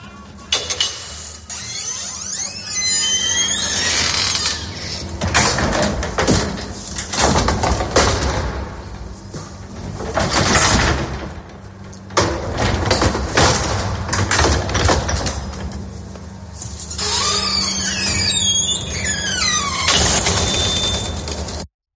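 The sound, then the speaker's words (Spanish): An old but perfectly maintained elevator with very old glass, much wrought iron, golden knobs and a triple door: its iron gates squeal and rattle as they slide open and shut, with metallic clanks, high screeches and a steady mechanical rumble running throughout, loud. “Es un ascensor antiguo, pero que está perfectamente mantenido”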